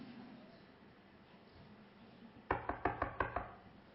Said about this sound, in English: Knocks on the door. The door opens.